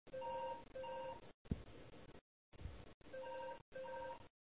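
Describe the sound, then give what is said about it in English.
A telephone rings in repeated electronic bursts of steady tones, separated by brief gaps and a few low thumps, moderately loud with no one speaking. “Just a moment while I kill that phone.”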